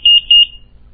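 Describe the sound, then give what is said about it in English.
Two short, shrill electronic beeps from a home security alarm during its exit delay, with the front door sensor left open, sound in quick succession at one steady high pitch, clear, with a faint low hum underneath and no voices. “And again, you have your exit delay so that you can leave the house.”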